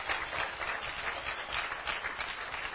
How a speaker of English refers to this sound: So you shouldn't be clapping. That shouldn't be a big deal that someone does that, really.